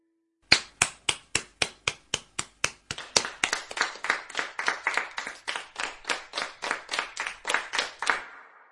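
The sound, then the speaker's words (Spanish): A steady run of sharp, fairly loud hand claps, starting evenly spaced and then quickening into a faster, slightly fuller rhythm before stopping abruptly. No voices. “El sonido sorpresa de hoy fue el de un aplauso.”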